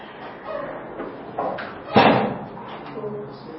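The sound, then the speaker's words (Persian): A chair bangs once, loudly, with a brief scrape around it, while faint murmuring voices carry on in the background. “یه مدارایی با اون صندلی هم باید بکنیم.”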